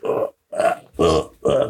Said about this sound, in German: Da klang wie ein Rülpser.